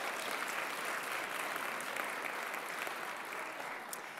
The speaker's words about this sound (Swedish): Hur många är det som inte född i Sverige? How many of you are not born in Sweden? Would you please raise your hand and wave to me? Hello France! Åh, titta runt, det är många, vet ni. Det är många. Ge dem en applåd, svenskar. Kom igen.